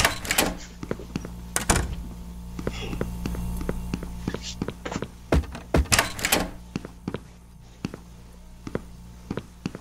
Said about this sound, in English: Yeah, I'm definitely closing these doors after me.